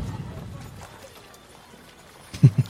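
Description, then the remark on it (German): Horse hooves trot along in a soft, steady clip-clop over a low rumble, ending with two louder, close hoof knocks. “Ja, dann steige ich wieder auf und versuche geordnet, langsam trabend gen Schloss oder Residenz zu traben.”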